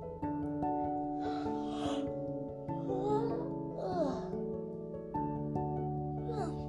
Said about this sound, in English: Sorry, I had a yawn. I lost my place.